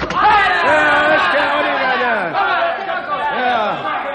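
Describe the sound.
A loud, angry crowd of men clamors at an opened doorway, many voices shouting and yelling over each other in a continuous, agitated roar with rising and falling cries.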